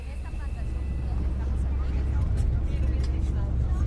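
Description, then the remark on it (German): A bus engine drones steadily, a deep, continuous rumble with road noise and faint rattles layered on top as the bus climbs into the mountains and clouds, crossing the volcanic range in Costa Rica. “Der Bus schraubt sich hinauf ins Gebirge, hinein in die Wolken, die wie Watte an den Gipfeln kleben”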